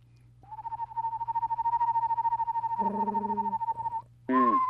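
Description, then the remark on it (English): A person imitates an eastern screech owl's call with a long, quavering, trilled hoot, its wobble held steadily for several seconds, then breaks off into a short, higher voiced note at the end. “And then they have that little wobble that goes like”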